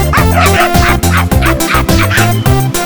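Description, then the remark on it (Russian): A small furry dog barks and yips in a quick, steady string of loud yaps, blended with a dense musical backing that keeps going underneath without a break. “Девушка, посмотрите, какая у меня мохнатенькая собачка.”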